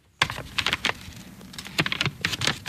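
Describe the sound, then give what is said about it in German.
A bookbinder and restorer in Braunschweig carefully turns the pages of a book several hundred years old, whose leather spine she restored, with a series of crisp paper crackles and rustles in irregular bursts, heard alone without voices. “Vorsichtig blättert Carla Burkhardt in einem mehrere hundert Jahre alten Buch.”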